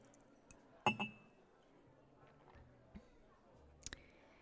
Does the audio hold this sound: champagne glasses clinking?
yes